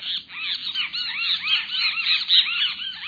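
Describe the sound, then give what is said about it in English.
Great kiskadee whistled notes ring out in a steady, overlapping stream of arching, high-pitched calls, repeated rapidly and fairly loud throughout, with no talking. “You'd probably also hear the whistled notes of a great kiskadee.”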